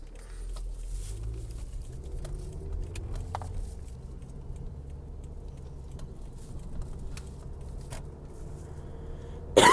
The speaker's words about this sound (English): And then cough on it.